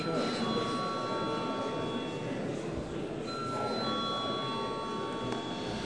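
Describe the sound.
A parliament voting bell rings steadily for several seconds as deputies request a vote on a proposal, a sustained high-pitched electric tone layered over a constant murmur of indistinct voices.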